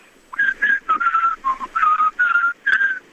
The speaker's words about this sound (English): Let me hear how you whistle. No, you can't just blow like that. Like, you got to whistle a tune. And make sure you say, here, bird.